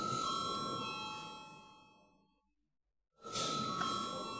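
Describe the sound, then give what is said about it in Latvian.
An electric voting bell rings steadily in the Saeima, the Latvian parliament, before a vote on a draft decision to elect a deputy to a committee, a bright buzzing tone that fades out, then after a brief silence rings again sharply and loud. “Lūdzu zvanu.”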